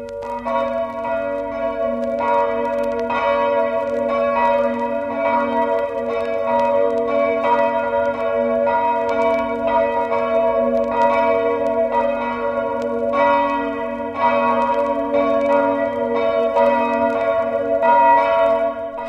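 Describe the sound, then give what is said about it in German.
Church bells ring continuously and loudly, overlapping peals with steady sustained tones and repeated strikes throughout, with no voices present; church bells rung for 15 minutes after a minute of remembrance, across Vorarlberg and in Halle an der Saale, Germany. “Nach der Gedenkminute läuteten die Kirchenglocken in ganz Vorarlberg und an Lamperts Todesort im Deutschen Halle an der Saale 15 Minuten lang”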